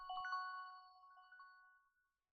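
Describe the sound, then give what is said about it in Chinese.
A mobile phone ringtone sounds briefly: a bright electronic chime of a few quick notes that rings on steadily and fades out after about two seconds, with no voices. “怎么是我手机响？”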